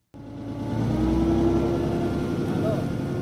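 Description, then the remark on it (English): The engine of a small fishing boat on the Andaman Sea, Thailand, chugs steadily, a loud, continuous low drone with a humming tone that holds evenly for a few seconds after starting abruptly. “I'm in a small fishing boat on the Andaman Sea”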